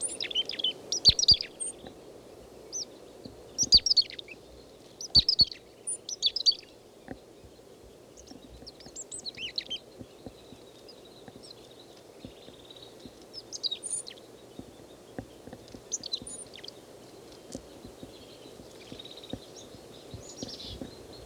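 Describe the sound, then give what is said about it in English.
A single foraging chickadee, with no others nearby, gives short, high-pitched chirping calls in scattered clusters, moderately loud over a steady low background hum, with a few soft clicks and no voices. “This chickadee is foraging. I don't see any others nearby. He's giving 3 calls.”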